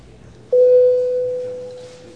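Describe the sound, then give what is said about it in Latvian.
A parliamentary voting bell, rung before a vote on a bill in its second reading, sounds a single steady electronic tone, beginning abruptly after a moment of quiet hush and holding loud and clear, fading only slightly for nearly two seconds. “Paldies, lūdzu zvanu.”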